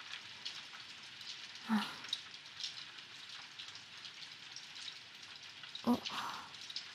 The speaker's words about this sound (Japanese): あと単純に傘差すのめんどくさいっていうのもあるけど。これ結構強くなりそうだな。帰る時までにはやんでてほしいんだけど。